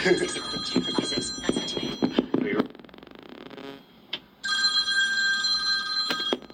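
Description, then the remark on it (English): A shrill electric bell rings in a sustained metallic burst, stops briefly, then rings again steadily; voices talk over the first stretch. “Interrupted by the bell, but we'll be fine.”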